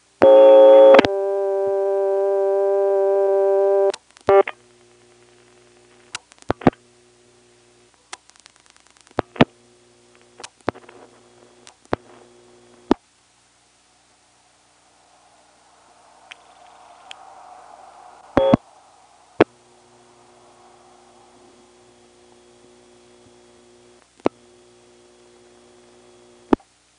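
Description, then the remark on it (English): A telephone exchange ringback circuit in use: a loud, buzzy telephone tone for a few seconds, then scattered sharp clicks as a few digits are dialed and the phone is hung up, over a faint steady hum, with a brief hiss of line noise midway and no talking. “Here's a brief use of the ringback circuit. All I'm going to do is dial a few digits and hang up, and then when I pick up again, it'll still be there.”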